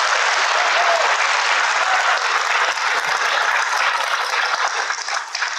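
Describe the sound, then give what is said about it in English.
An audience claps steadily throughout for authors Christos Tsolkas and Sarah Winman joining on stage, a dense, loud wash of many hands with no pauses and no voices rising above it. “A big round of applause for both of them.”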